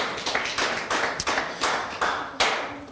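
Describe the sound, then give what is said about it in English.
An audience gathered to hear the word of God claps their hands in praise, a dense, steady patter of many claps with louder swells every half second or so, no talking. “So I'll give yourselves now a hand clap of praise.”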